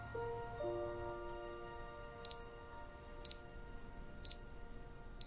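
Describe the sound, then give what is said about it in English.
A timer ticks down from 57 minutes to 56 in the quiet, sharp clicks spaced about a second apart beginning midway, after a faint lingering tone fades away. No one speaks. “Later, Julie's timer ticks down from 57 minutes to 56.”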